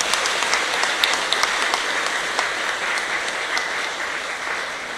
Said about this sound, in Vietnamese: Và tất cả những thành tựu này đó, nó thuộc về đóng góp to lớn của tất cả tập thể các thầy cô giáo. Xin hãy cho một tràng vỗ tay thật lớn để tán dương.